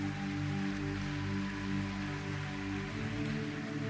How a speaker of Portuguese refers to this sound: Então, queridos, pode aplaudir o Senhor Jesus.